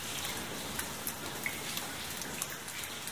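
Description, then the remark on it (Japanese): Steady rain falls with a continuous hiss, scattered individual drops pattering and ticking on a surface. The sound is even and moderately loud, with no voices. “雨が止んで動物たちは森に帰り始めました。”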